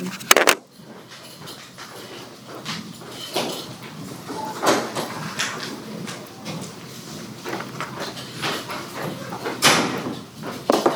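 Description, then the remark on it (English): A door is being closed, with a string of sharp clunks, knocks and rattling handling noises spread across several seconds, fairly loud and without any talking. “close the door? Oh, yeah, please.”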